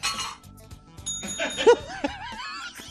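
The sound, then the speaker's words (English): A comedian imitates a ringing bell with his voice: a bright, sustained ding rings out, followed by warbling, wavering vocal tones, with soft chuckling and low background murmur. “Can you do a bell?”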